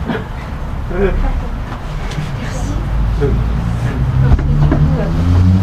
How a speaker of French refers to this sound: Parce que du coup, près de la fenêtre, j'entends les voitures.